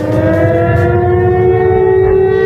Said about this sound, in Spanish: Con esta sirena de fondo, la sirena de Guernica, la que sonó hace 87 años justo antes de los bombardeos